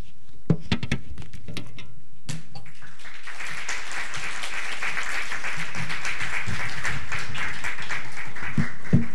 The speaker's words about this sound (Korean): 우리는 무엇을 보는가라는 제목으로 우리 선교사님 말씀을 전해 주실 텐데요. 나오실 때 우리 박수로 환영하겠습니다.